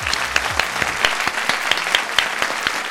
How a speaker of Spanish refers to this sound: Un aplauso para él, por favor.